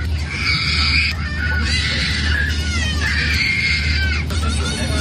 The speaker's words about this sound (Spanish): Vale, todo el viaje, con escalas incluidas, lo pasaron escuchando a un crío llorar desconsoladamente.